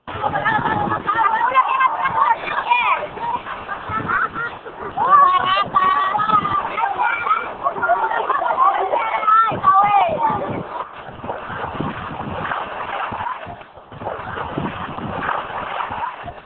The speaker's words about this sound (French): Aujourd'hui, les habitants se sont mis à traverser la rivière à pied. Nous avons surpris des enfants en train de se livrer à ces jeux. On les écoute.